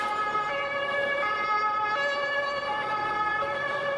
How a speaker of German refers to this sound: Oder das Tatütata, was übrigens ein Polizeiauto ist.